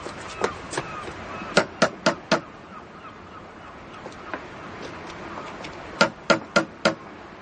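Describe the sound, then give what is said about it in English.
Firm knocks on a wooden door, struck in two quick sets of four with a long pause between and a couple of lighter taps first, over a soft, steady hiss. “No, I'll knock.”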